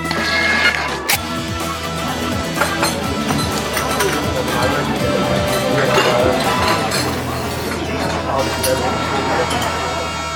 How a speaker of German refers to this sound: Hier ist schon wieder was los in meiner imaginären Podcast-Küche. Da wird gebrutzelt, was das Zeug hält. Habt ihr das Gas im Hintergrund gehört? Klack, klack, klack, klack, klack, klack.